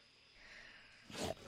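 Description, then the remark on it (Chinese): A short, rough growl from a young tiger bursts out near the end after a faint, hissy background: a single brief snarl, not loud. The young tiger is surrounded and attacked by a pack of five wolves. “这只小老虎怎么好像和我见过的老虎不太一样？”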